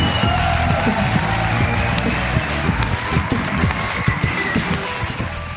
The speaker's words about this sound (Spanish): Un aplauso para Pantomima Full. Ahora sí.